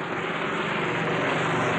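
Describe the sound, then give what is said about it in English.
Helicopters roar overhead above a prison cell block in a steady, loud wash of noise with a low throbbing rumble underneath, constant throughout with no voices. “That's the helicopters you hear.”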